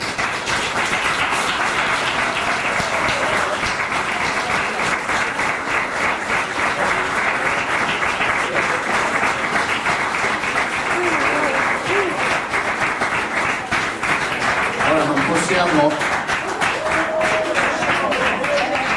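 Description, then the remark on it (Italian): A sustained round of audience applause, dense and steady, with many hands clapping at once for the full length, loud, with faint cheering or voices rising beneath it toward the end. A studio audience applauds on cue to open a filmed event. “Partiamo con un applauso.”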